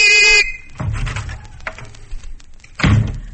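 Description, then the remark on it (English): A mailman's whistle, blown in the morning at the Butterworth home by the mailman, Mr. Benchley (Robert Benchley), gives one short, loud, shrill trilling blast, followed by a few dull thumps and rustling knocks like a door being handled. “It's morning at the Butterworth home, and he and his wife, Cass, hear the whistle of the mailman, a Mr.”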